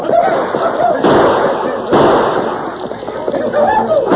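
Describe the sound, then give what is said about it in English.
Sharp, loud gunshot bangs crack out over a dense, continuous roar of a stampeding longhorn cattle herd, with shouting voices mixed in, as a band of outlaws charges the herd, firing guns at close range to start a stampede. “The band of outlaws charged at the herd with guns roaring.”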